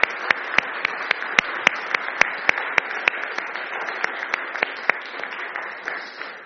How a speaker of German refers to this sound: Also nochmal herzlichen Dank auch an euch, die ihr heute hier so treu Dienst tut. Und bisher klappt alles wunderbar. Und ich denke, das ist auch mal einen Applaus wert. Die machen das nämlich erst zum zweiten oder dritten Mal.